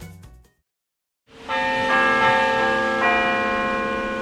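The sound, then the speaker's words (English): Church bells from a nearby church ring out after a brief pause, several strikes layering into a full, resonant peal that hangs in the air, fairly loud with no voices. “One evening over dinner, Kent and his wife heard the sound of church bells wafting over from a nearby church.”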